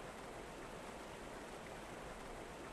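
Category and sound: nature, flowing river water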